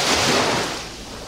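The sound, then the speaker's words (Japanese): A loud, broad rush of big ocean surf, like a big wave crashing, that swells at once and then slowly washes away and fades, with no voices. “大波のビッグウェーブ”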